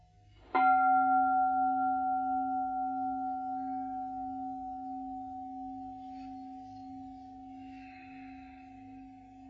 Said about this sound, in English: Anybody who has sat here for any amount of time knows how I love bells. And so over time, I've given a number of different talks about the bell and how it is part of our practice.